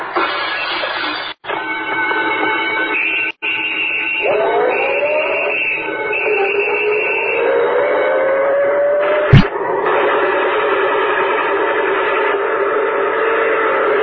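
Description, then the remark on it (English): A big show train rolls steadily along the rails with a continuous rumbling clatter, while a whistle sounds in long, bending tones over it. No one speaks, and a sharp click cuts in near the end. “Tonight, Gangbusters presents the case of the Carnival Caper, when robbery rode the big show train, until police officers found the mysterious passenger and stopped murder on the Carnival Midway.”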